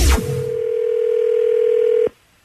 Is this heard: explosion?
no